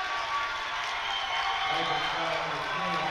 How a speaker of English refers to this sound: And the Northwood fans give the Bronx cheer to the officiating crew. I'm not sure why.